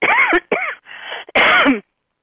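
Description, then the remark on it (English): A short fit of loud coughing: two harsh bursts, a quieter raspy stretch, then one more strong cough, with no talking around it. “That even makes me cough.”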